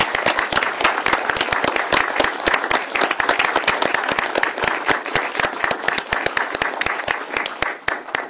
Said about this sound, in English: I wonder if you'd join me in a round of applause for our retiring council member.